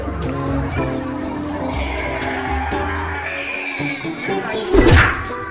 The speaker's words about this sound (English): That's the Bible hitting him in the face. And then people in the crowd are screaming hallelujah because he falls to the ground, and then suddenly he looks like he's dazed and confused.